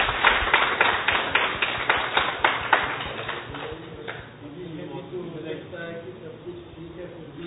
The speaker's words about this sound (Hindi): एक बार अपने लिए तालियां बजाएंगे जोर से।